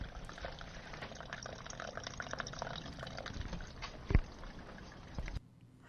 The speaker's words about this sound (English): And before we talk, we're going to listen to this next soundtrack, which is draining the water from the greenhouse.